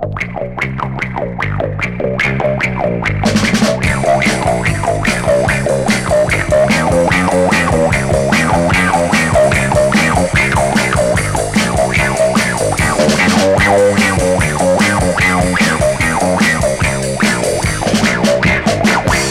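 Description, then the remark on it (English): Funky bass guitar played through a wah-wah pedal, its sweeping, vowel-like tone bouncing in a steady, groovy rhythm. The riff is loud and continuous, with no voices. “And listen to the funky bass guitar sound you get with the wah-wah pedal.”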